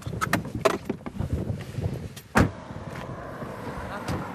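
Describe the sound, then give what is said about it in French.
A car parks at a petrol station near the border at the Col de Montgenèvre, settling to a stop with a low rumble, a series of clicks and rustles, then one loud door thud midway followed by quieter movement as people climb out. “On va se garer à la station essence. Et en vérité, la frontière, elle est un peu plus bas. Voilà. On sort de la voiture ?”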